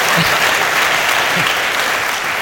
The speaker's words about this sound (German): Und das ist eigentlich ein kläglicher Applaus für diese Leistung.